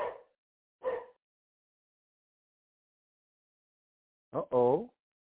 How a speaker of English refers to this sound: Your dog is getting a little huff in his voice, huh?